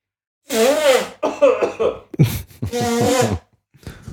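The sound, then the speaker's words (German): Several harsh coughs from a person who has briefly taken off their headphones come in quick bursts, some drawn out and throaty, followed by a brief snuffling sound at the end. “So, aus Ermangelung einer Räuspertaste werde ich jetzt den Kopfhörer einmal kurz absetzen und mich schnaufen.”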